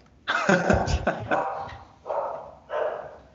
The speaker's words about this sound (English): those are Jake's dogs